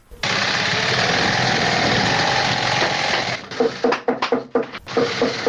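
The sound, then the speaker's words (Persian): Shoe-sewing machines whir loudly and continuously in a busy shoe factory in Kabul, Afghanistan, for about three seconds, then give way to a rapid, irregular series of sharp hammer blows by workers mixed with machine noise. “یکی از کارخانه های تولید بود در شهر کابل که کارگرانان با دلسردی تمام و نامید از یک آینده روشن چکش می زنند و چرخ ماشین های بودوزی را با صدا در می آورند.”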